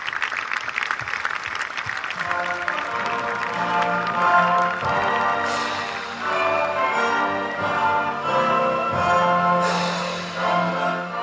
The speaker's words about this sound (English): So can we please give our troops a round of applause? Thank you.